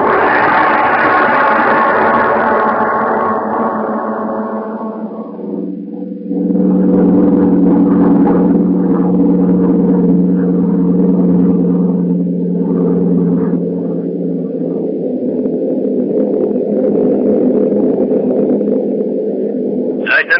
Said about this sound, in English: The scene is a bombing plane flying over England.